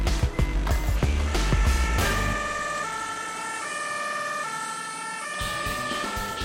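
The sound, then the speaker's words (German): An ambulance siren wails loudly and steadily with sustained two-tone pitches, over the rumble of the ambulance driving along the road on its way to an emergency call in Lendenberg, heard from inside the moving vehicle. “Ein Rettungswagen muss so schnell wie möglich am Einsatzort sein.”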